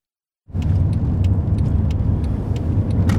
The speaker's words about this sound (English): turns his Mercedes and keeps it on the right road to the La Palma Correctional Center.